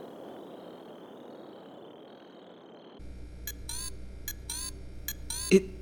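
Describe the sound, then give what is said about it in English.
A communicator device beeps in a rapid series of short, high, upward-sweeping electronic chirps, following a few seconds of steady hiss with a thin held tone, ending in a louder blip. “It sounds like my communicator's beeping a little more loudly and maybe a little more sarcastically.”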